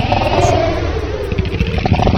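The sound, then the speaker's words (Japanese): A drum smeared by a long, stretched reverb effect into a loud, continuous wash, its original drum sound unrecognizable, more like a rumbling engine roar than distinct hits, with a swept tone rising through it toward the end. “まあ、これがリバーブ効果です。”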